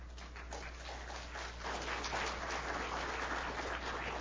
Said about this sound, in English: Wow, they're very generous. They even applauded before you even finished.